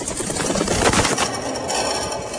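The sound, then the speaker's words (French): A rapid, papery flutter of pigeon wings flapping, decoy pigeons set up to lure a passing flock, swelling into a burst of beats midway before settling back into a steady rustling flutter. No voices. “Alors là, on a installé les volants. C'est toujours pareil, c'est essayer de leurrer le vol qui passe.”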